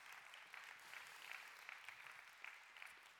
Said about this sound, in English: Yeah, we clap for that.